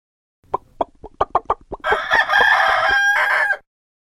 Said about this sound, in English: What does a chicken say?